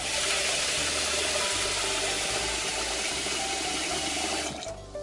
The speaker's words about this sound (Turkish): Önce pirinçlerimizi yıkayalım.